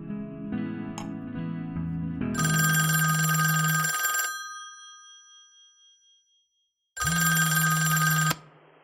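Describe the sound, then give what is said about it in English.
A bell-type telephone rings twice, loud, each ring a sustained metallic trill of over a second, separated by a few seconds of quiet. A faint clink and shuffle come before. “downs her wine as the phone begins to ring.”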